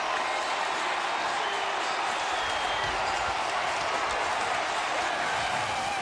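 A huge stadium crowd of 45,000 fans at Miller Park, watching a Jumbotron as the Brewers reach the 2008 playoffs, roars and cheers continuously, a dense, steady wall of voices and applause that stays loud throughout without any break.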